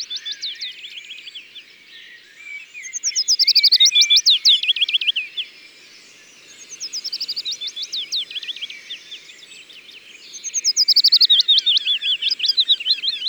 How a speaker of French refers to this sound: On entend aussi un pouillot fitis. Là. C'est cette jolie strophe descendante, sifflée, toujours pareil. Ils sont deux qui se répondent.